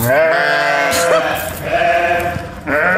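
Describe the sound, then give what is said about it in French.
Several ewes bleat loudly, their wavering, nasal calls overlapping almost continuously, with a few fresh bleats breaking in over the chorus. “Ça, c'est des brebis qui en ont marre d'être confondues avec des chèvres.”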